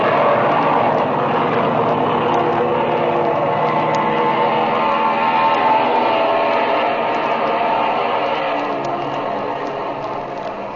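A propeller airplane engine, still warm from an earlier run and with its oil temperature at 110, starts up and drones loudly and steadily, a continuous rumbling roar with a pulsing hum that eases slightly toward the end.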